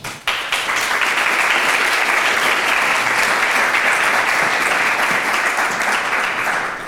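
Steady audience applause fills the whole stretch, a dense, sustained wash of many hands clapping at an even loudness, with no voices rising above it.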